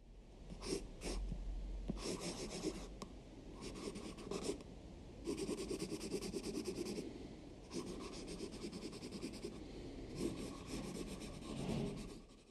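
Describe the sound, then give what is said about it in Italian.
Felt-tip markers scratch and squeak across paper in a run of quick strokes, some short and some drawn out, with brief pauses between them and no voices. “Non sono pennelli né acquerelli. Hai indovinato? Sono pennarelli.”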